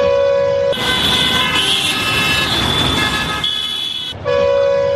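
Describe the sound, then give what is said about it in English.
Loud vehicle horns blare in busy street traffic in Bangladesh, one long steady honk at the start and another near the end, with a dense wash of engine and road noise between. “The blaring of horns from vehicles is just a part of daily life.”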